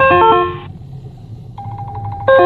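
A phone ringtone from an incoming spam call, heard while driving home from work, plays in bursts of bright, stacked melodic tones, cutting off, then returning with a softer sustained note before the full ring resumes loudly over low road rumble.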